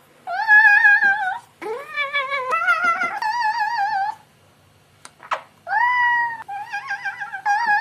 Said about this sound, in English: As if Napoleon Dynamite and Hello Kitty had a child and made it yodel. Cat yodeling.